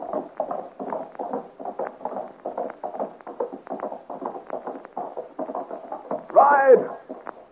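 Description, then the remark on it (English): A horse gallops out into the darkness of a forest in a fast, steady rhythm of muffled hoofbeats that stay even throughout, with a brief high cry breaking in near the end. “But Joel pulls roughly at the horse's bridle and, shouting encouragement to her, gallops out into the darkness of the forest.”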